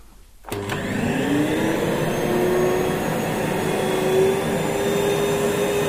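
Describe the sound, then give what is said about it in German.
A Dirt Devil vacuum cleaner switches on after a brief quiet moment and runs steadily at its lowest setting, its motor whine rising slightly in pitch as it spins up, fairly loud, with no voices. “Deswegen schalte ich jetzt einmal den Dirt Devil an, und zwar auf der niedrigsten Stufe.”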